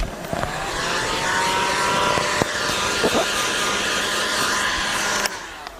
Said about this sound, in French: Et là, vous avez en main... un décapeur thermique. Comme le gros sèche-cheveux, hein, pour rendre le plastique plus mou.